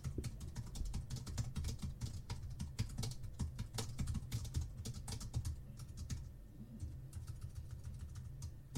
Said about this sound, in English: I like this keyboard. It's quite noisy. It's proper, yeah, and you're a heavy typer. Oh, I hammer it.